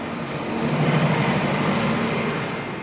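A steady roar of city traffic, cars and trucks with engines rumbling, swelling as a vehicle passes and then easing off slightly; no voices.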